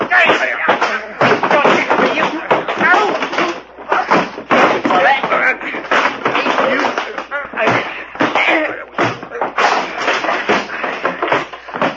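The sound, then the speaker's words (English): A loud, chaotic fistfight fills the whole stretch: rapid thumps, slams and shuffling knocks pile up continuously, with voices grunting and shouting through the commotion. “Gee, that was a fight.”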